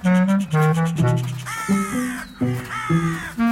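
Eurasian jays calling in a rapid series of loud, harsh, nasal calls, overlapping and repeated about seven times, with no talking.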